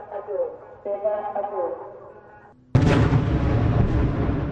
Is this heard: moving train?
no